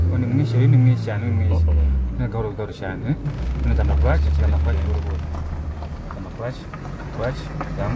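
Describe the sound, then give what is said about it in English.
A car engine drones low and strained during a driving lesson, holding a steady rev without a gear change, dipping briefly and then climbing again, with people talking over the rumble throughout. “I can see from the way you're driving the car that you're clearly not. I'm not practical anymore. You need to change the gear at some point.”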